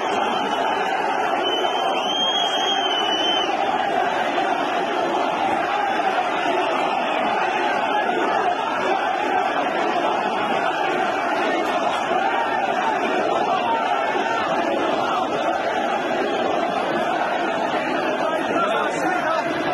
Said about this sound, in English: Footage from the scene, well, it showed crowds chanting Allah Akbar, and according to reports, they also chanted anti-Semitic slogans.